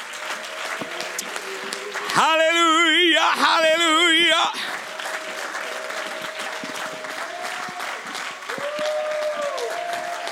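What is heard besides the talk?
audience applause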